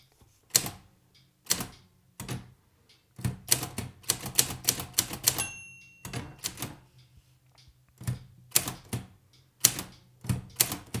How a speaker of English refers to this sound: The interesting thing about this typewriter is that it doesn't really have a couple of quite important like buttons or keys. One key, for example, is the number one. It doesn't have it.